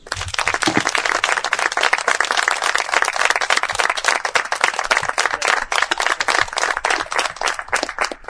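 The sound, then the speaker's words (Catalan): Sustained applause from a sizable crowd at a tribute ceremony for Neus Català in Roquetes, dense and steady with many overlapping claps, loud throughout the full length and no voices standing out. “crec que ens mereix, la Neus Català es mereix un aplaudiment de totes les persones aquí presents.”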